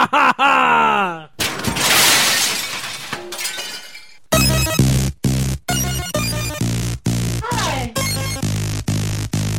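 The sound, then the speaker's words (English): A string of video game sound effects: warbling falling tones, a loud crashing shatter, then a run of harsh, buzzy synthetic blasts chopped by short silent gaps. “Oh, it's all video game sound effects.”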